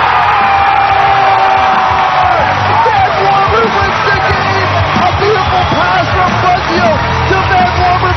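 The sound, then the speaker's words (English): A sellout crowd at a Ferris State hockey game in Big Rapids roars and cheers an overtime goal that wins the game 3-2 on a Saturday night. Whoops and shouts rise out of a dense, loud, continuous wall of noise that holds steady for several seconds. “Thank you to the sellout crowd again, the fourth sellout of the season for the Ferris State hockey team here in Big Rapids.”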